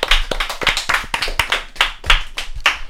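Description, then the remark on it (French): A lone woman applauds herself at the end of a song in a game, clapping in a steady, fairly quick rhythm, about ten sharp claps over a few seconds, with no other applause or voices joining in. “C'est la seule à s'auto-applaudir.”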